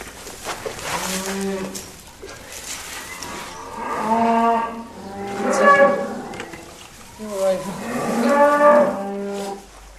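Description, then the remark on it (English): A cow moos several times near her newborn female Limousin calf in a pen, long drawn-out lowing calls rising and falling in uneven succession, with faint barn noise in between and no talking. “When the cow licks him now, she won't lick that out of him.”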